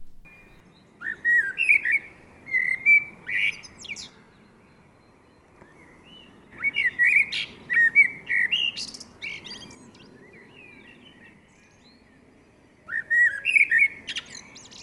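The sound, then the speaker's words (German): A common blackbird sings three separate phrases, each a mellow fluting warble ending in a higher, scratchy twitter, with short pauses between them, over a faint outdoor hush. “Dann würde ich auch gerne nochmal die Amsel abspielen”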